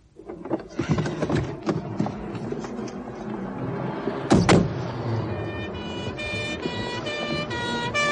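A police car pulls up behind the speakers' parked car, its engine rumbling amid clattering street noise, then steady high siren-like tones rise and hold toward the end. No one speaks.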